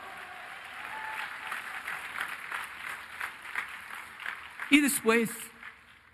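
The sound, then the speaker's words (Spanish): An audience applauds for the Lord in a dense, steady wash of clapping that carries on for several seconds, then a voice shouts out loudly over the last of the applause. “Un aplauso al Señor.”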